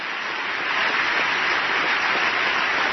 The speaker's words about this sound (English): Oh, look at Trent, a lot applauding. Yeah, okay, Trent.